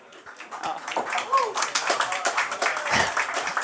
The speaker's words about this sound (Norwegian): Og det, nei, gi en liten applaus til den galingen her.